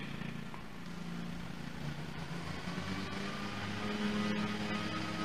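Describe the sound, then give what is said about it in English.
A lawnmower engine drones steadily, a low buzzing hum with a rough mechanical edge that holds an even level and swells slightly toward the end. No one speaks. “We have a little competition with the lawnmower.”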